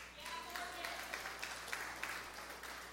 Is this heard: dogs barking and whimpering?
no